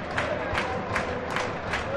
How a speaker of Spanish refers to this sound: Eso es, la gente dando palmas ahí de coro.